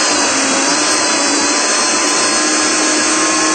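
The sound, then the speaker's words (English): A blender runs at full speed, blending soaked cashews with about 2 cups of purified water and a pinch of salt for a dessert, with a steady, loud, high-pitched motor roar that holds unchanged for the whole stretch, with no talking. “And once again, all I'm going to do is blend.”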